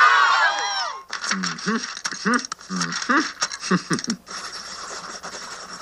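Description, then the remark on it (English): Half-pencils scribble in quick, scratchy bursts of strokes, irregular but steady, after a brief swell of many voices at the start. Low murmured voices sound between the strokes. “Listen to those half-pencils scribble.”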